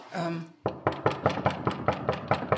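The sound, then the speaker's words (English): A short spoken sound gives way to a rapid, steady run of about ten firm knocks on the door of the suspected fake office of a company called Oasis, evenly spaced, each one sharp and hollow. “I know this is kind of cliche at this point, knocking on the door of the suspected fake office.”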